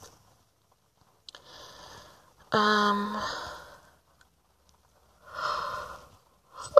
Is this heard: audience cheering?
no